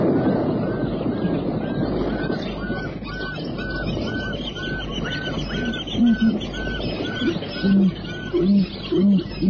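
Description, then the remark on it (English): High-pitched barking cries of zebra repeat steadily over a dense chorus of honking and calling birds around the edge of the water as the sun begins to sink, with a few deeper, louder honks near the end. “And daintily around the edge of the water, and the high-pitched barking cries of the zebra mingle with the cry of the birds as the sun begins to sink.”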